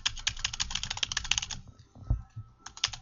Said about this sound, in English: To demonstrate that, I will give you the hands-on demonstration. I'll start typing text.